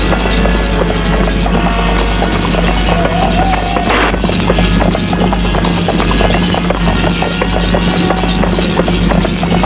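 Horse hooves clip-clop in a steady, continuous rhythm, loud, over a dense noisy background with a constant low rumble.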